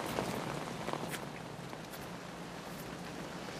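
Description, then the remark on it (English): Steady rain hisses throughout at moderate volume, with a few soft, irregular footsteps and knocks early on as someone walks in from the downpour. No one speaks. “Oh, here we are. Let's get in out of the rain.”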